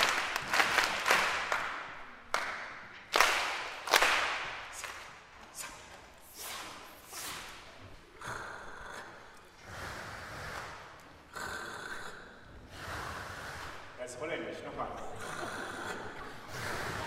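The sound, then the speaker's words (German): A group of children at an orchestra concert makes rhythmic body percussion: sharp bursts of clapping and stomping, then a softer, steady swishing of rubbed hands and scattered snaps, fairly loud; the children also jump, drum on their thighs and click their tongues. “Die Kinder singen nicht nur mit den Profisängern, nein, sie stampfen, klatschen, reiben die Hände, springen, trommeln auf den Schenkeln, schnalzen, schnipsen.”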